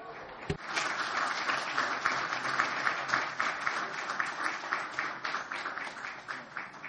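An audience applauds steadily, many hands clapping in a dense, sustained patter at moderate loudness that carries on throughout without any talking.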